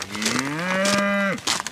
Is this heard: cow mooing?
yes